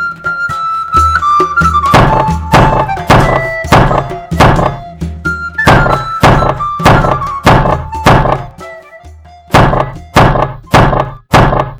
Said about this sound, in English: The thumping on the huge front door of the Widow Grimshaw's house was so heavy and insistent that it threatened to dislodge the door from its hinges.